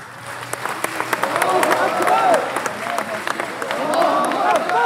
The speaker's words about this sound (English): It was a remarkable sight. Around 24 turbaned Taliban followers cheering as their senior negotiator, Mullah Abdelghani Baradar, signed an agreement with U.S. envoy Zalmay Khalilzad that seeks to end a war that's claimed tens of thousands of lives.